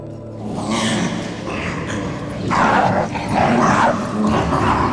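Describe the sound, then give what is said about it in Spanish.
Dogs bark aggressively and almost continuously, loud, a dense overlapping chorus of snarling barks with a few yips mixed in and no pauses between them. “Al otro lado, lo recibió un coro de terribles ladridos.”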